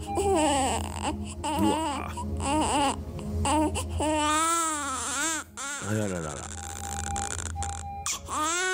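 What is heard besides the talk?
newborn baby crying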